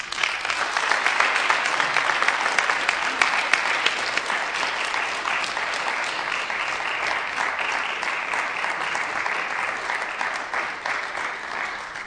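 An audience applauds the Grant family steadily for about twelve seconds, a dense, even wash of many hands clapping at a fairly loud level, with no talking heard over it.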